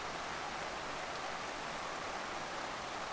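Steady, dense hiss of rain falling, an even wash of noise that holds at the same level throughout with no pauses, drops standing out or voices.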